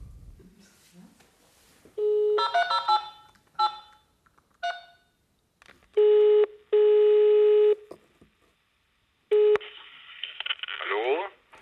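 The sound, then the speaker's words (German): A call being placed on a mobile phone: a quick run of keypad dialing beeps, then several long, steady ringing tones separated by pauses, fairly loud, with faint background noise. “Könnte ich mal bitte ein Handy haben?”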